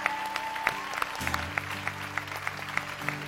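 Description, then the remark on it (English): An audience claps in a steady, even rhythm, sharp beats about three per second, over a low sustained droning tone, as people come out of their seats down to the altar. No voices stand out. “And let's give them a hand as they come on down there.”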